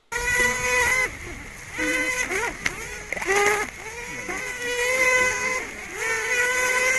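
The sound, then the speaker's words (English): Honeybee swarm piping made by scout bees returning to the swarm: a series of about five reedy, high-pitched tones, each rising briefly and then holding steady for roughly a second, repeated over a continuous buzzing hum. “They then come back to the swarm, and they start making a sound called piping.”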